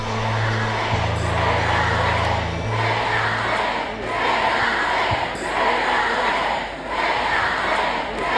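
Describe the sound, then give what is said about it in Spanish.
A large crowd of Barça fans chants loudly and rhythmically in unison to Alexia Putellas at the celebration of Barça's fourth Champions League title, the roar swelling and dipping in waves, with a low steady hum underneath during the first few seconds. “sobre todo desde que el otro día, en la celebración de la cuarta Champions del Barça, le gritaban los aficionados en la fiesta de esa cuarta Champions del Barça esto a Alexia Putellas.”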